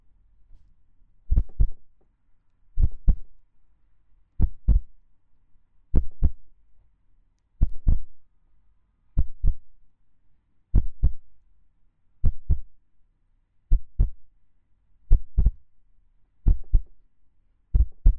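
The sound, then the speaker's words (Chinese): A somewhat fast human heartbeat, heard by listening against a person's chest on a train, muffled, thumping in steady lub-dub pairs, about a dozen beats with even spacing, low and deep with no talking over it. “你的心跳好像有点快啊，让我听听看。”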